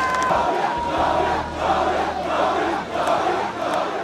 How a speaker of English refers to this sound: An emotional George Weah waved to cheering supporters in Monrovia Thursday.